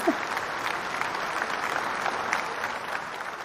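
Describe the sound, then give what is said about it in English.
Steady applause from a crowd, a dense continuous patter of many hands clapping at an even loudness for a few seconds, with no voices over it; an added applause sound effect played as a guest is welcomed on the Power of Love Show. “It's so funny because now that we've added that audio clap, I feel like a game show host.”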